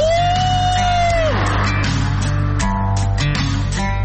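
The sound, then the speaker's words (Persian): Several people scream and whoop together in a long sustained yell inside a tunnel at the start of a road. One high voice slides down over a steady low rumble, with a roomy, echoing quality. “چه تونلی، چه هوایی، جیغو بزن ماشاءالله.”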